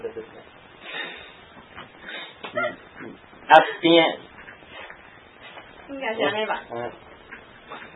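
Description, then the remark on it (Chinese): A person imitates a dog, voicing a few sharp barks and a whiny whimper in short bursts, fairly loud, with quieter vocal noises between them. “应该是 这样吧。真逼真。然后看边的人就在那里汪汪。”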